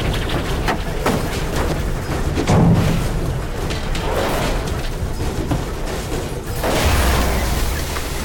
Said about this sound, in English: Mike, we're gonna hit that tree! I can't pull up! Look out! We hit the